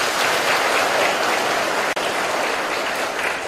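A full round of applause from a sizable crowd for the children, dense steady clapping filling the whole stretch at an even loudness, with a very brief dip near the middle.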